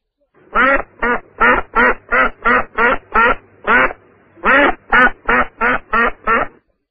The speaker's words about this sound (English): I hear a duck.